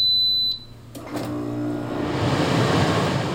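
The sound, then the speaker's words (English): An air conditioner starts up: a short high electronic beep, a couple of mechanical clicks, then a steady, rising whoosh of fan and airflow that continues on its own. “Air conditioning can provide not only comfort, but life-saving relief from relentless heat.”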